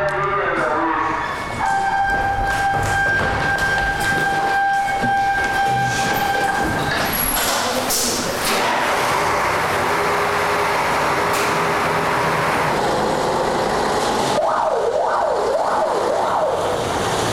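A fire truck pulls out as a fire crew responds during a training alarm drill, amid heavy engine rumble, with a steady two-tone horn early on and a rising-falling siren wail near the end, loud.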